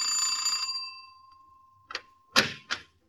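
doorbell ringing

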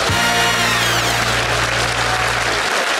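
studio audience applause

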